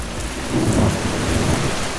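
Heavy rain pours in a steady, dense hiss while a deep roll of thunder rumbles through the middle, filling the short stretch without any voices.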